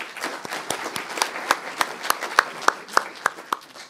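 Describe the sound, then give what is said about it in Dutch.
An audience applauds after a swearing-in oath is taken, a burst of many overlapping hand claps that settles into a steadier, rhythmic clapping with sharp, evenly spaced claps toward the end. No one speaks. “Applaus.”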